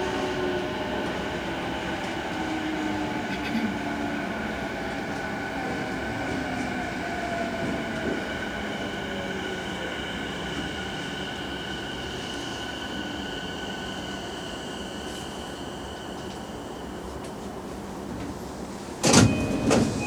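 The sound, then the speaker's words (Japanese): A subway train rumbles into Kokkai-gijidomae Station with steady droning motor tones and squealing wheels, slowing to a stop before a sharp clatter near the end as the doors slide open. “ご乗車お疲れ様でした。国会議事堂前です。到着の電車は”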